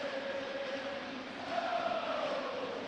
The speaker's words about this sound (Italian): Sentite i tifosi del Brescia